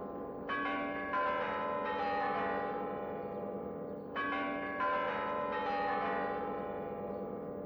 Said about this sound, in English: Take a look at the Spassky Tower. The melodious chimes of the clock tower are well known all over the world.